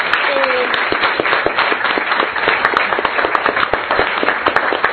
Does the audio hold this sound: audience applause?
yes